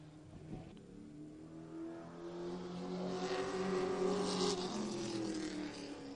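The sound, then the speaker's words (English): The engine of the number 18 race car revs at high pitch on a timed qualifying lap around a racetrack, its tone rising and swelling as it accelerates and passes, then easing slightly; steady loud engine drone throughout with no talking. “Been around it a few times, pinches it down low, picks up that green flag now. He'll go on the clock, and we'll see what we got for a lap.”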